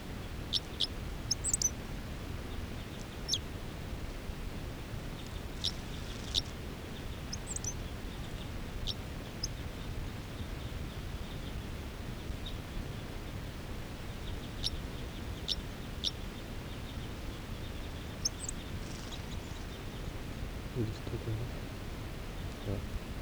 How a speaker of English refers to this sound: Song by the male. A lot of the other wild birds are calling.